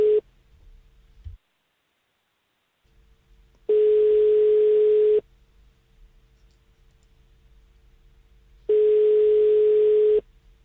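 A telephone ringback tone sounds while a live call to a mobile phone connects on the show Café Olé: steady tone bursts about a second and a half long, separated by several seconds of quiet line hiss, clear.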